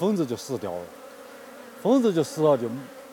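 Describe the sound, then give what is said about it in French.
Honeybees buzzing in two short bursts, the droning hum rising and falling in pitch as they fly past, with a quiet pause between the passes. “Quand ils pulvérisent des pesticides sur les arbres, si les abeilles continuent à y récolter du nectar, elles vont ramener des pesticides dans les ruches.”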